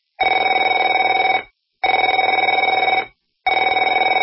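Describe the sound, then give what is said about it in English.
A telephone rings in three loud, evenly spaced bursts, each a steady trilling bell tone lasting over a second with short silent gaps between. No one speaks. “Afraid to answer it?”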